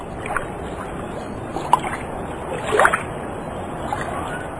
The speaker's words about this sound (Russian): Этот недалекий от дома пляж оказался чудным местом. Вода в море теплая, а у берега неглубокая. Ленивые волны неспешно накатываются на горячие камни.